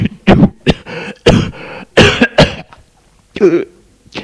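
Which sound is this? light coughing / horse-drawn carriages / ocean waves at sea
light coughing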